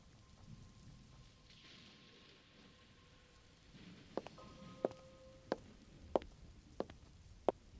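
Steady rain patters on concrete with a soft, even hiss, and in the second half sharp, evenly spaced drips or taps ring out about once every half second. No voices.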